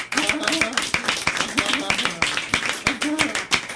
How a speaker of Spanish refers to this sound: Bueno, yo creo que merece un aplauso, ¿no? El esfuerzo que han hecho los compañeros.